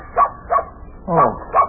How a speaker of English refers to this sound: Oh, it's only your dog, Bunny.